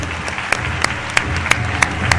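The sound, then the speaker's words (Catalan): An audience applauds the 2024 Christian ambassador as he is called to the stage, a dense wash of clapping punctuated by sharp, evenly spaced louder claps about three times per second, like rhythmic clapping in time. “Un fort aplaudiment.”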